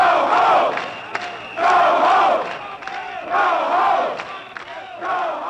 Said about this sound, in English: Later that evening, the police entered the Castro in large numbers, causing the people to come out of the bars screaming, "Get out of our neighborhood."